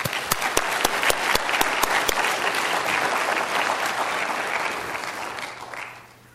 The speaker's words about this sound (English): So won't you please give us a warm round of applause for